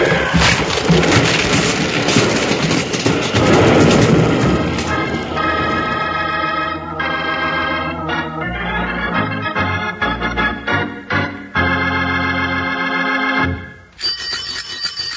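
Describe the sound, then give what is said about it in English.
A loud, roaring crash of rumbling noise fills the first few seconds, like a wagon with no brakes and locked wheels smashing up, then gives way to sustained, stabbing music chords that run to the end. “We're going to crash.”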